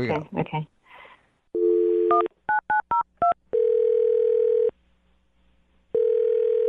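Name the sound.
telephone number being dialed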